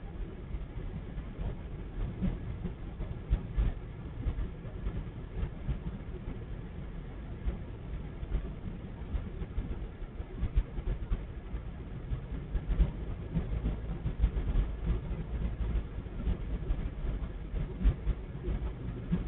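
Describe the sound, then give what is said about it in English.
A long freight train of coal cars rumbles past at a steady pace in Vaughan, a continuous low rolling roar with faint rhythmic clacks of wheels over rail joints and no voices. “Bunch of coal cars.”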